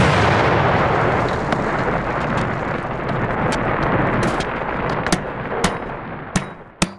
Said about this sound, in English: Pea gravel comes flying down past you and through the grate in the floor. It would have made an incredible racket.